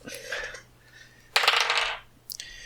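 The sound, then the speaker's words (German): Dice rattle and tumble across a hard tabletop in a few clattering bursts, the loudest roll lasting about half a second before a brief final click. “Du musst leider nochmal würfeln, er ist nämlich im Dodge.”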